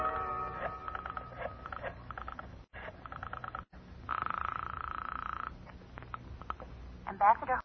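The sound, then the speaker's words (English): A telephone being dialed to call a lawyer: repeated ratcheting clicks and whirs of a rotary dial, broken by brief pauses, with a steady buzzing tone in the middle. “I'll get him on the phone right now.”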